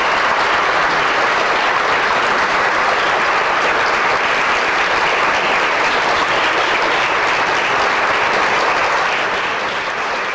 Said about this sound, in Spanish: Por ello solicito y pido al respetable que hagamos un honor de deportividad y le demos un merecidísimo aplauso al Sporting y a la Foresta.